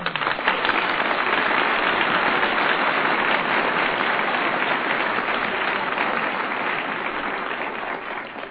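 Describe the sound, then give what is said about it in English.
A crowd applauds Hollywood comedian Chico Marx of the Marx Brothers as he is introduced on a show, a dense, even wash of clapping that holds at a strong level throughout and eases only slightly toward the end, with no voices over it. “When the people applaud, that's enough for me.”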